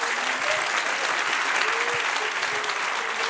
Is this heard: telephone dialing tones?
no